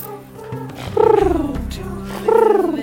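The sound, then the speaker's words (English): Voices imitate pigeons cooing as 'Christmas pigeons': a low throaty, purring rumble broken by two long, falling coos, one near the start and another toward the end, each gliding smoothly down in pitch. “You got an impression of us doing Christmas pigeons.”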